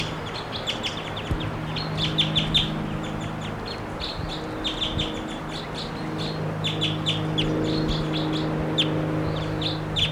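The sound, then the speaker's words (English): A wild bird in a tree right above a camp calls over and over, its high, sharp chirps and tweets coming in quick bursts across the whole stretch, above a steady low hum in the background. “Wild bird.”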